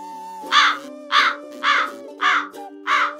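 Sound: crows cawing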